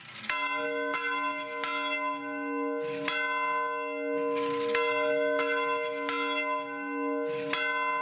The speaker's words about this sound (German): Wenn im kleinen hölzernen Glockenstuhl die Kirchenglocke von Starkow erklingt, ruft sie gerade mal 80 Menschen. Mehr wohnen hier nicht.